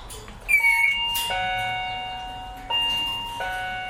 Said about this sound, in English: I'm going to just ring the bell a minute.